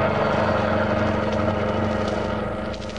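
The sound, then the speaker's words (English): A gang's getaway car engine runs steadily with a low, droning rumble and a constant mechanical hum, holding at a strong, even level before easing slightly at the very end. “Get this car going.”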